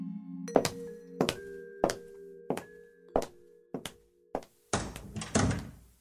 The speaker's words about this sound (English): Click-clack of the door sticks in my ears for hours,